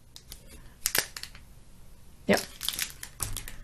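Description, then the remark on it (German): Dry crinkling of thin traditional Japanese washi paper as a small envelope (futo) with a cute kitten printed on it is handled, coming in a few short rustling bursts with brief quiet gaps between them. “Das sind so kleine, also es ist so Washi, also so ihr traditionelles japanisches Papier. Das ist, glaube ich, ein Futo, also ein Kuvert, ein Umschlag.”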